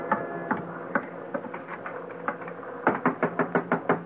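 Someone knocks on a door, a few scattered raps at first, then a quick, insistent burst of about eight loud knocks near the end, over a steady low background rumble.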